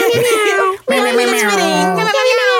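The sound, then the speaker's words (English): A voice imitates a deep-voiced cat meow as a celebratory horn sting: a short yowl, a brief break, then a long, loud, drawn-out wavering tone that sags slightly before rising again at the end. “Cat doing the horn.”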